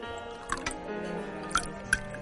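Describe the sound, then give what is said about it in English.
Chardonnay wine trickles into a glass, a soft steady pour broken by three or four bright little plinks and drips. Quiet overall, with no voices. “would you care to try the Chardonnay? No, I'm sure it's fine. Just pour.”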